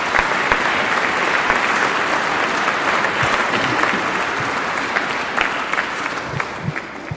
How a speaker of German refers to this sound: Habt ihr schön gemacht. Dürfen wir auch mal einen Applaus geben.